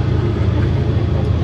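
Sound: train passing by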